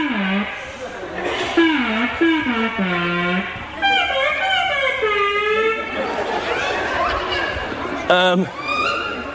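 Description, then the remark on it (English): A gliding, wavering electronic tone swoops up and down in voice-like contours, imitating someone saying hello, over several phrases with a sharp rising sweep near the end. “People that are good at it can make it sound like it's talking.”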